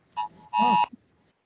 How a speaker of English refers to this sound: Sorry, Amber Alert on my phone. They come through everything.